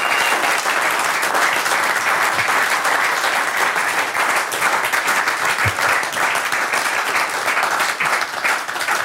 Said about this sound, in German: Ihr Applaus.